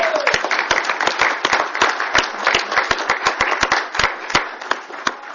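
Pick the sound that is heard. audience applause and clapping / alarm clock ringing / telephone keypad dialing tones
audience applause and clapping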